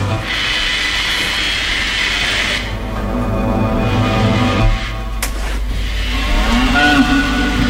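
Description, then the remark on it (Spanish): Cows moo in long, low, drawn-out calls, several overlapping over a steady droning background noise, loud, with no talking. “Esos son como vacas.”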